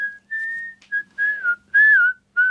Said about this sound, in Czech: Vám je nějak hej? Co si to pískáte